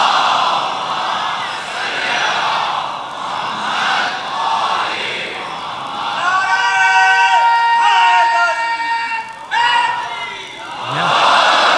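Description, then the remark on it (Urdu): A large crowd loudly chants salawat upon Muhammad and the family of Muhammad together, a dense roar of many voices that swells into sustained, pitched unison phrases midway, with a brief dip before rising again. “تیار ہیں انشاءاللہ مطلب سننے کے لیے آپ تمام حضرات، تو بلند آواز سے ایک صلوات بھیجیے محمد علی محمد پر.”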